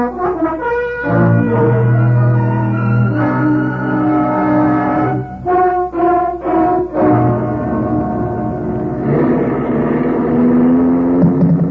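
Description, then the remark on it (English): A car engine drones steadily with layered humming tones that shift in pitch as it drives on, loud and continuous, with brief dips and no voices. “Very well. I'll drive you.”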